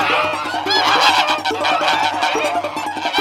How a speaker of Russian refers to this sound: А гуси догоняют, за попу щиплют.